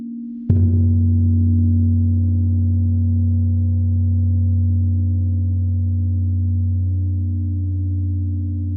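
A gong is struck once during a guided meditation practice, its sharp attack giving way to a deep, steady hum of low tones that rings on loudly and barely fades for several seconds, with no voices.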